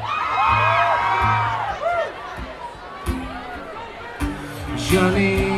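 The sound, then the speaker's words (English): A live audience shouts out their zodiac signs all at once, many overlapping voices yelling different words in a loud, chaotic burst, with a low steady tone humming underneath throughout. “everybody yell out your zodiac sign.”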